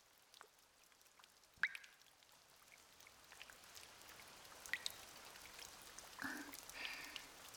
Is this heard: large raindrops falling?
yes